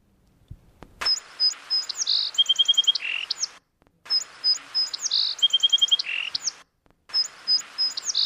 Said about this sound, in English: It's called a song sparrow.